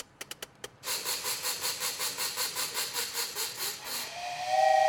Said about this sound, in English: Ugh, this darn thing. I can make the train run, or I can make it choo-choo, but it won't do both at the same time.